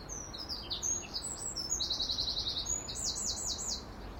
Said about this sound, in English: Birdsong. The greatest mental tonic that you can have. Makes me smile.